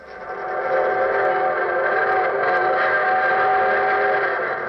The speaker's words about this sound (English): There's the evening train whistling for Hunter's Bottom.